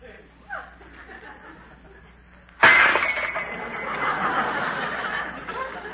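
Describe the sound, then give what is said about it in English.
A tray loaded with dishes slips from a woman's hands and crashes to the floor with a loud, sharp smash, followed by several seconds of rattling, clattering debris. Faint murmuring voices can be heard before the crash. “Suddenly the tray slipped from her hands and went crashing to the floor.”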